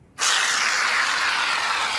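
A steady aerosol spray hisses out of a can of Lynx 2-in-1 shower and shave gel into a palm, starting abruptly and continuing loud and even for about two seconds with no other sounds.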